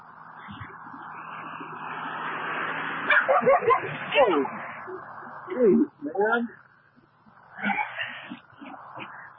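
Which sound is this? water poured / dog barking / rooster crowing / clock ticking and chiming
dog barking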